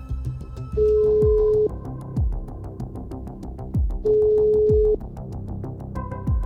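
A phone call's ringing tone sounds twice, each a steady beep just under a second long with a pause of a few seconds between, over rhythmic background music.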